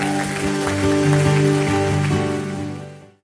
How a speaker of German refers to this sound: Komm Leute, lass uns den Leuten, die sich entschieden haben, einen riesen Applaus geben.